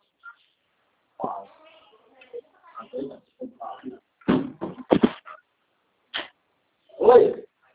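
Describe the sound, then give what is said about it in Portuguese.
A door is handled and shut: a few sharp knocks and clunks land in quick succession, followed by a muffled thud, with faint shuffling and a murmured voice around them. “vou fechar a porta.”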